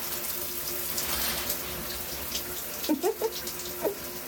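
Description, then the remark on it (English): Shower water runs in a steady hiss that fills the whole recording, with a few brief, faint vocal sounds rising over it near the end. “Well, I thought maybe I could start by getting in the shower with you.”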